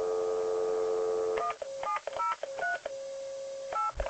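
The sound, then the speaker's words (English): A steady telephone dial tone hums, then gives way to a quick run of about eight keypad tones dialing a regular phone number, each short two-pitch beep sounding clear, with no voices. “Call a regular number first. It's busy.”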